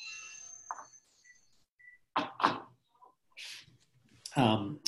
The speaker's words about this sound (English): forgive me, the phone is ringing here. Let me hang it up so it won't ring again.